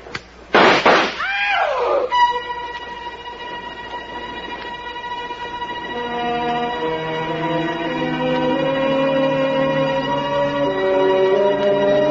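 A quick cluster of loud gunshot bangs, shots fired in the dark aboard a train, bursts out at the start, then gives way to a long, steady wail of layered whistle-like tones over a low rumbling train noise.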